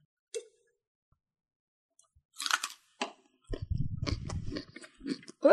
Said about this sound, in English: I'm still eating my carrot.